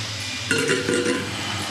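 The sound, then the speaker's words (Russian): Thawed broccoli drops into a pot of boiling water with a short splash and faint clatter lasting under a second, then a steady bubbling hiss continues in the background. “Мы положили брокколи.”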